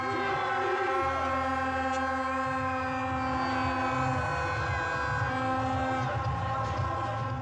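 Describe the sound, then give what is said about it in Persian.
A dense, continuous blare of stadium horns blown by fans at a stadium, many of them women, droning together at a steady pitch, loud and unbroken throughout, with a rumbling crowd noise underneath. “دمیدن در بوق‌های استادیومی برای اولین بار بسیار لذت بخش است.”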